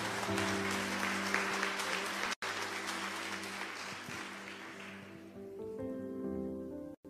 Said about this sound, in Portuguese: Uma salva de palmas para a palavra de Deus em nome de Jesus. Mais forte.